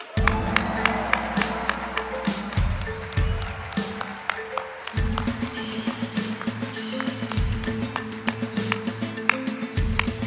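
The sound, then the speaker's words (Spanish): An audience applauds with steady, dense clapping for about ten seconds, with sustained low tones, like background music, running underneath the whole time, welcoming filmmaker Pablo Larraín onto the stage at an Ibero-American tribute award ceremony of the Guadalajara International Film Festival. “Y por favor, un fuerte aplauso para recibir al cineasta Pablo Larraín.”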